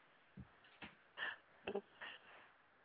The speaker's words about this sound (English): what's with all that heavy breathing? Yeah, are you turned on?